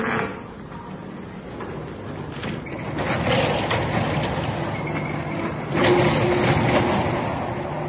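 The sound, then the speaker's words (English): A door is rattled and tried several times, with clunks and jiggling over a steady mechanical rumble. No one speaks. “Somebody's trying to open the door.”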